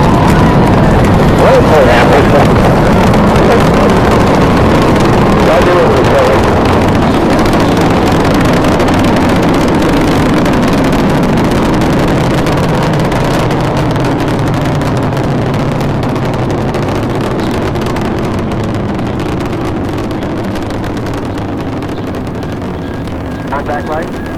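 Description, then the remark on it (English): Space Shuttle Discovery's rocket boosters roar at liftoff on a mission returning to the space station, a loud, continuous, crackling rumble filling the whole recording and slowly fading as it recedes. “Booster ignition and liftoff of the Space Shuttle Discovery, returning to the space station, paving the way for future missions beyond.”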